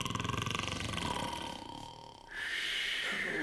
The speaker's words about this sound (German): und dann ist Ruhe im Zoo. Ruhe? Habt ihr schon mal zwei Elefanten schnarchen hören?